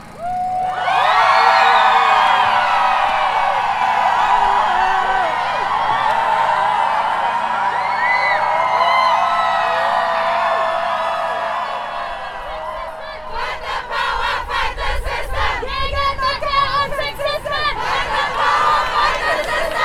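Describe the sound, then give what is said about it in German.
A large protest crowd, angry at capitalism and patriarchy, lets out a long, loud collective scream that holds for about twelve seconds, then dissolves into rhythmic clapping, whistles and scattered shouting. “Laut mit euch schreien, lasst alles raus, eure ganze Wut auf den Kapitalismus, das Patriarchat und all diese Scheiße. Lasst uns schreien, denn wir sind laut und wir sind da!”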